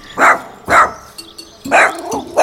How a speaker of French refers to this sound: Les aboiements de mon chien.